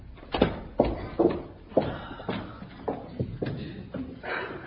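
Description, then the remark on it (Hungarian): Footsteps of someone going to answer the door thud across a hard floor at a steady, unhurried pace, about eight fairly loud steps, ending with the door being opened. “Ágnes megy ajtót nyitni.”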